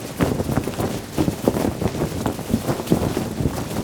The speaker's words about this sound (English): First, we start with a recording of just cloth rustling.